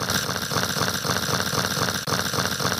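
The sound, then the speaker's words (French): A voice rolls a long, rattling R trill imitating an old Hürlimann tractor ploughing a field. The steady, loud chugging pulses rapidly for nearly three seconds, with only a brief catch near the end. “le R de … se rapproche fortement d'un vieux tracteur Hurlimann qui laboure un champ”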